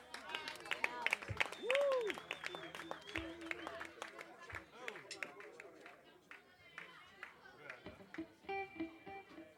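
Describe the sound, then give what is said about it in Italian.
An audience applauds itself at the performer's invitation, steady dense clapping mixed with cheering voices and a brief rising whistle, holding fairly loud for several seconds before thinning slightly toward the end. “Essere qui è la prima volta, è bellissimo, è un posto stupendo, siete stupendi voi, fatevi un applauso da soli.”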